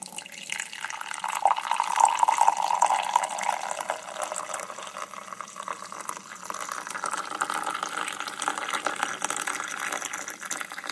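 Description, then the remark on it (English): Black coffee pours into a recently cleaned mug in a steady splashing stream, its gurgling tone climbing slightly as the cup fills. No voices are heard. “So my wife grabbed a recently cleaned mug and lovingly began to pour the black gold into the cup.”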